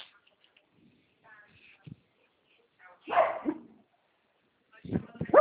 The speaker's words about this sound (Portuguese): Tem um Cachorrada aqui cachorrinho, né? ouve barulho e fica latindo.